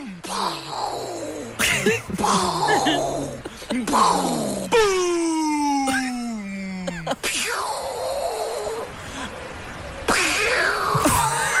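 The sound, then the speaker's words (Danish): A human voice imitates a cat with a series of drawn-out, wailing meows and groaning yowls, fairly loud, one long descending cry standing out in the middle. “Jeg lyder som en kat.”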